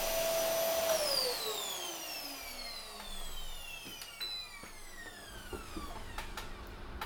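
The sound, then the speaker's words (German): A vacuum cleaner roars steadily, its high motor whine sliding downward in pitch as if winding down, with occasional small clicks and no voices. “Das MKE 200 setzt auf eine Kapsel mit Souvenir-Charakteristik, die präzise Aufnahmen mit weniger Hintergrundgeräuschen wie aktuell im Staubsauger ermöglichen soll.”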